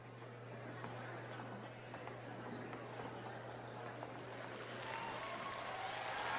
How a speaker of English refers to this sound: All right, just a point of information, we've never had a theme begin with applause.